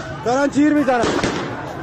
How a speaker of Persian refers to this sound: دارن تیر میزنن.